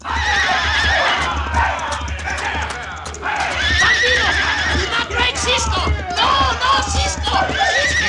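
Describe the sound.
A horse whinnies loudly several times over the steady drum of galloping hooves as Louis Merce, having roped Cisco from behind, spurs his horse to drag him. Indistinct voices and commotion are mixed in the background.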